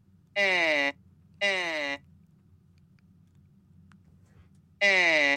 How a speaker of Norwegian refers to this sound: Det den lyden som kommer når man blåser gjennom stemmeapparatet hans. Oi. Det hører ikke så veldig fornøyd ut.